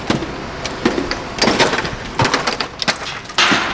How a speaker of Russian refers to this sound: Машина ЗИЛ с подъемником устанавливается под окнами пятиэтажного жилого дома. Рабочий чистит снег с передней части крыши и топором сбивает сосульки на высоте 14 метров.